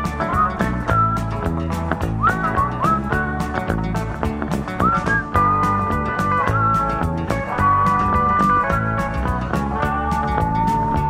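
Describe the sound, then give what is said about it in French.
A clear whistled melody with sliding pitches rides over a steady, upbeat band accompaniment with regular drum beats, the tune carrying continuously for several bars. “On siffle.”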